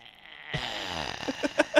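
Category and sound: vocal imitation, voice imitating snoring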